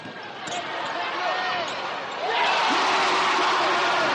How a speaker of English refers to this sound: If you close your eyes and listen to the fans at the Charlotte Coliseum cheer on the Sting, you might think the game was a sellout. Think again. Paid attendance at last Saturday's game against the Cleveland Rockers was less than 5,000.